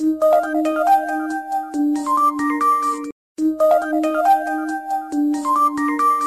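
A melodic mobile phone ringtone plays loudly and clearly, a bright repeating tune that cycles twice with a brief silent gap at about three seconds, no voices over it.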